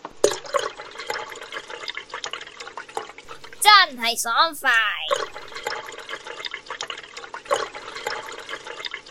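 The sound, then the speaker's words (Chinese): A water tap turned on to maximum for washing the face gushes at full flow, a steady, loud rush of splashing water that runs throughout, with a brief excited exclamation from a voice midway. “我要去洗个面，将个水龙头开到最大凉快下先。”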